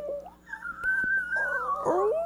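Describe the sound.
A voice squeaks in imitation of a humpback whale: one long, wavering high-pitched squeal, ending in a warbling downward swoop.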